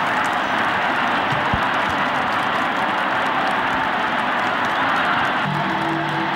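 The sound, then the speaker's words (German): A vast crowd of over 100,000 people in St. Peter's Square roars and cheers outdoors after the conclave signals that a new pope has been chosen, a dense, sustained wash of voices that stays loud and steady throughout, with no single voice standing out. “Über 100.000 Menschen, die auf das Ergebnis gewartet hatten, brechen in Jubel aus.”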